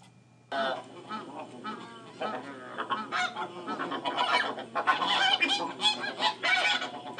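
A goose honks repeatedly in an irregular, overlapping series, the calls loud, growing denser and more excited toward the end with no talking.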